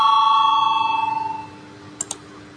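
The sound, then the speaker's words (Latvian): A parliament chamber bell rings before a vote on proposal 109 from the Union of Greens and Farmers faction, with a bright, slightly wavering tone fading away over about a second and a half, followed by two quick, sharp clicks with no talking. “Lūdzu, zvanu, balsosim par 109. Zaļo un Zemnieku savienības frakcijas priekšlikumu.”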